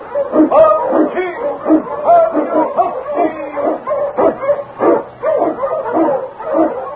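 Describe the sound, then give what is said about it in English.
Eskimo sled dogs bark loudly and continuously, with rapid, overlapping barks, yips and whining yelps, forming an excited, unbroken chorus with no talking, opening the radio show The Challenge of the Yukon. “The Wonder Dog King, swiftest and strongest of Eskimo lead dogs, blazes the trail through storm and snow for Sergeant Preston as he meets the Challenge of the Yukon.”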